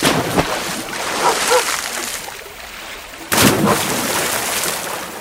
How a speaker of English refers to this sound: She grabbed the shoe and threw it into the creek. "Paru, fetch!" she called. Splash! Paru jumped in after the shoe.